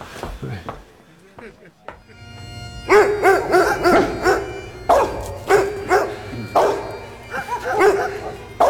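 dogs barking and yipping

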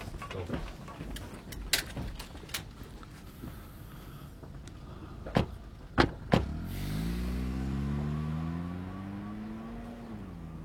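car driving away

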